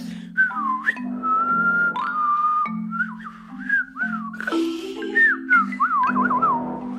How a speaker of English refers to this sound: When I hear somebody whistling, I think this person feels good, even if it feels like nervous or something, it still like calms you down.